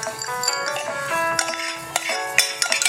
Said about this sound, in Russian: Пару ударов вилкой. Это чтобы снизу там пар будет выходить. Чтобы сильно не разорвало.